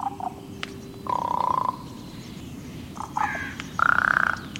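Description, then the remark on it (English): Harsh, throaty common raven calls ring out several times at irregular intervals, loud, over a steady low background rumble, with the last croaks the strongest. “Ravens, their voices unmistakable, held a prominent place in the cultures of northern peoples from the Vikings to the tribes of the northwest coast.”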